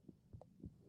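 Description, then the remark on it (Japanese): Muffled heartbeat thumps in a lub-dub rhythm, two beats about a third of a second apart, heard through a stethoscope with a low hum underneath and no talking. “心音聞こえるじゃん。”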